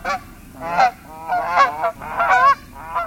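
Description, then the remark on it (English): Waterfowl honk repeatedly in a quick, overlapping series of about five or six nasal, harmonic calls, loud and uneven in rhythm, with no one talking. “Two sure signs of fall are wintering waterfowl appearing on lakes and shorebirds settling into saltwater marshes.”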